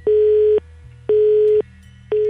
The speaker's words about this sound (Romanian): sună ocupat de 2 zile.